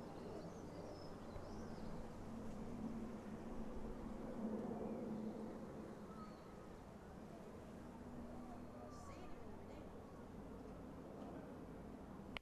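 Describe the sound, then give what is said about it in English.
A small light aircraft drones overhead outside the front of a house, its low, steady engine hum swelling slightly and then fading back into faint outdoor ambience with a bird chirp or two. “There is a small light aircraft overhead.”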